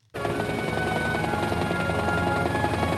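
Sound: helicopter rotor noise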